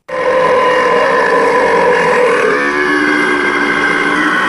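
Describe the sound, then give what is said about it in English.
A long, loud, guttural belch from a girl stretches into a rumbling roar, sustained for several seconds without a break, its pitch shifting partway through. “Then she marched through the village, burped and belched and let out a roar.”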